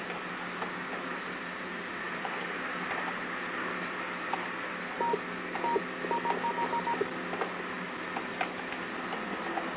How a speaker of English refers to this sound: Seem to have Morse code on the line.